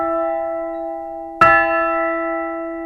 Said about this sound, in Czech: A ten zvon, to je symbol, měla ho svobodná Evropa a tak dále. Takže jsme si mysleli, že to je to důležité, aby si každý zazvonil tady a řekl, tak můžu si zazvonit tady bezpečně na zvon, a je to zvon svobody.